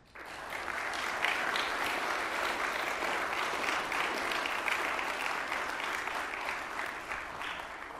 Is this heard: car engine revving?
no